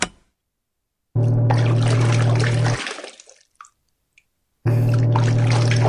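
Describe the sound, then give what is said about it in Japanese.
Water rushes steadily into a washing machine over a low mechanical hum, then stops and trickles away into silence before a second loud burst of filling and churning starts up. “それでは今度こそ蓋を閉めて、ヒーロー君を、何も頭の中に入ってないおバカさんに生まれ変わらせる、悪の組織の洗濯機のスイッチを入れちゃいまーす。ポチッと。”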